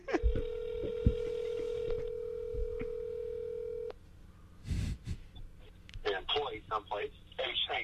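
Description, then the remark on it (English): A steady phone tone holds for about four seconds while brief dialing beeps and clicks punch through on a call to Scarface, followed by a short burst of line noise, then Scarface's voice picks up and talks. “Hold on. No, well, now Scarface is on the phone.”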